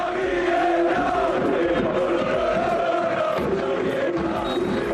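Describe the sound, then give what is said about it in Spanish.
A huge crowd at Camp Nou chants in unison for coach Xavi Hernández after Barça beat Atlético de Madrid 4-2, a dense roar of many voices with a steady, sustained melodic rhythm rising and falling, loud and continuous throughout. “Alves y Jordi Alba se salieron, contundencia en el ataque del equipo azulgrana, pero el triunfador lo gritaba el Camp Nou.”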